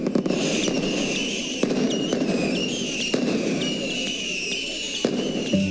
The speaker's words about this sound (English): When midnight strikes, fireworks light up the sky, and finally, Easter Sunday is here.